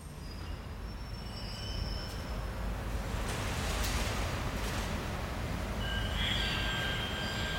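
Steady low rumble of a commuter train in central Stockholm rolling along the rails, with faint metallic squeals and whines rising. No one speaks.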